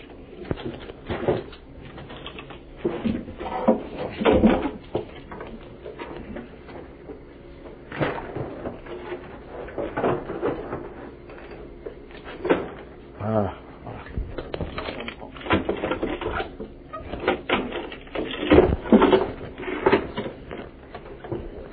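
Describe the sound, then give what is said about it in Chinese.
Two chairs are shuffled and set into place beneath something, with a few scraping bumps and thuds at irregular intervals, over a background of people talking. “可以不可以把两个椅子放在这个下面？”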